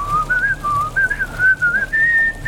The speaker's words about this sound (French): Bah, je siffle, certes très mal, mais c'est un air de Mickey, tu connais pas?